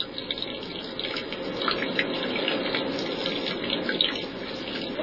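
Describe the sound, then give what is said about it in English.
Water from hand-carried jars pours in a steady, continuous stream, splashing and trickling onto dry, brittle papyrus reeds for building a reed boat, with small irregular spatters throughout and no voices. “The reeds must be watered once again, this time from hand-carried jars, before the work can resume.”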